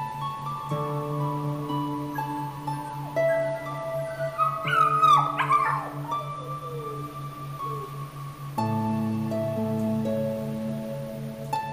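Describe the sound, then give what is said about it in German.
Brief high-pitched whimpers and yips from golden retriever puppies with their mother in the middle, mixed over steady, sustained background music with long held tones; no one speaks. “Geduldig wartest du bei der Golden Retriever-Familie. Schmust mit der Hundemama und spielst mit ihren Babys.”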